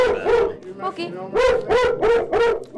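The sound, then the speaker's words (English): A dog barks repeatedly, about six or seven loud, tonal barks in a fairly steady rhythm, with brief gaps between them and no voices audible. “You know, well, once our dog is done.”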